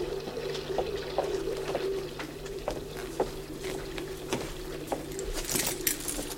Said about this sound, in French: Attends, mais le bruit, enfin, on va la réveiller. Qu'est-ce que je te dis, oui? Ouvre le robinet complètement. Bon. Voilà. Elle fera du grand bruit.